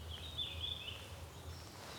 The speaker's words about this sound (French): J'observais les oiseaux de là, ouais. Et ce chant est vraiment... Il est tout discret, tout fin.